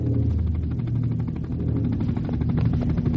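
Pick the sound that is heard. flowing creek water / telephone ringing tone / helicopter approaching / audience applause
helicopter approaching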